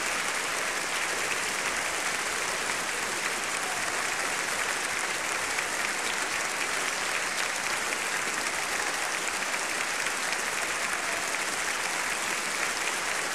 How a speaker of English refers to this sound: And soloists and chorus are being warmly applauded by the members of the Chicago Symphony Orchestra.